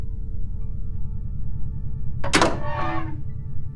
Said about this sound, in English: It took me a while to figure out how to get the door unbolted, even once the override was gone.